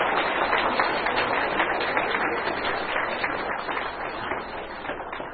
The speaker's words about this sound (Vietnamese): Chúng con xin Thầy nhận nơi đây chúng con một tràng pháo tay thật là đặc biệt để cảm tạ Thầy.